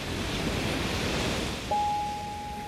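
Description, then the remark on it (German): Sea waves surge in a steady, rushing wash of surf that fills the whole clip, with no voices; partway through, a thin, steady high-pitched tone begins and holds over the roar. “Und dann kommt irgendwann das Meer.”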